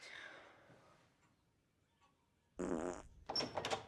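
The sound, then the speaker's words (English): A loud, sputtering fart from Bluer the dog, caused by his digestion issues, bursts out after a quiet pause, followed by a second longer, raspy blast that flutters and trails off, prominent with no talking. “Oh, Bluer's digestion issues. Don't worry, get used to it. There's no way to get used to that. My God, it's intolerable.”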